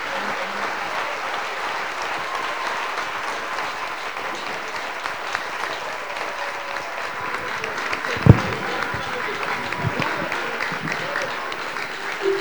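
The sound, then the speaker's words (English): A large church audience, standing, claps steadily and continuously to acclaim the Lord, a dense sustained patter of applause, with a single sharper knock or thump standing out partway through. “And clap the pour Lord ce qu'il a fait de nous.”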